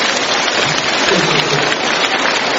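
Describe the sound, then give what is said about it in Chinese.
Steady, dense applause from a crowd thanking Master Lu (卢台长), many hands clapping at once in a continuous loud wash of sound for a couple of seconds, with no voices rising above it. “让我们用掌声感谢卢台长。”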